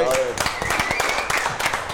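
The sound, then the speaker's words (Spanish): A small group claps steadily for a couple of seconds in applause for "the king", the quick claps blending into a dense patter while voices shout and cheer over it. “Un aplauso para el rey, güey.”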